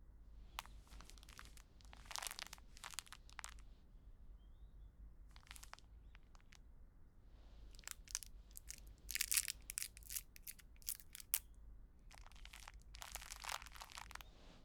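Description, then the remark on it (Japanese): A plastic packet of a cooling gel sheet, brought from the fridge, is crinkled and torn open in a run of sharp, irregular rustling bursts, with brief pauses between the crackly handling sounds and no talking. “冷蔵庫に冷え冷えシートあったから持ってきた。”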